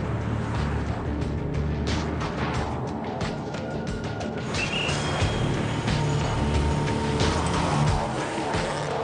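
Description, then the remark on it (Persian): A car engine runs steadily amid street traffic noise, with faint rattles and a brief high squeak as the car slows, pulls over and eases to a stop by the curb, no voices. “ماشین رو یه جوری نگهدار که زیاد به جدول نچسبه، جا بر عملیات باشه.”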